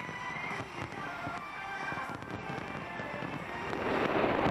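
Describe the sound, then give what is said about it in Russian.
New Year fireworks in London welcoming 2013 explode continuously in a dense, crackling barrage, with booms and pops overlapping and growing louder toward the end, amid a broad crowd-like wash. “Лондон встретил 2013 год под бой курантов Биг Бена и в сопровождении зрелищного фейерверка.”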